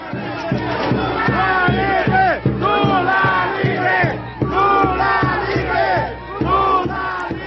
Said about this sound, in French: Et pas encore, on va y revenir, mais ça n'a pas empêché les effusions de joie au moment de l'annonce devant le siège de la Cour à Brasilia. Voilà ce que ça donnait.